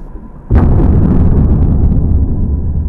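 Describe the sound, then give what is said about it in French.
A metal can, heated until steam escapes and then plunged opening-down into cold water, collapses with one sudden, loud crunching pop as the steam condenses and outside air pressure crushes its walls, followed by a steady rush of hissing, bubbling noise that continues to the end. “La pression atmosphérique agissant à l'extérieur écrase alors les parois de la boîte.”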